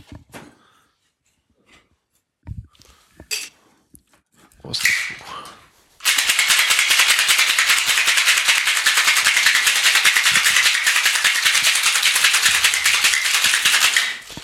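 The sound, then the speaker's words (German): A few scattered clinks and knocks, then a cocktail made with a dash of Angostura bitters and orange bitters is shaken hard in a shaker filled with ice for about eight seconds, a loud, steady, rapid rattling of ice against metal that stops abruptly. “Ich schüttel das mal kurz.”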